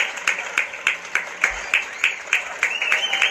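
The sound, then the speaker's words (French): A crowd of people confined at home in Spain applauds from windows and balconies to thank health-care workers, with one pair of hands clapping in a steady, quick rhythm over a wash of other clapping and faint voices. “Pendant de longues minutes, ils ont tous applaudi depuis leurs fenêtres et balcons, tous ensemble, une sorte de communion collective improvisée, particulièrement émouvante, qui n'avait qu'un seul objectif, remercier tout le personnel sanitaire”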